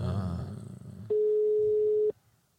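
A single steady ringing tone of an outgoing phone call, one loud, one-second beep at a mid pitch, follows a stretch of muffled low background noise and then cuts off to quiet.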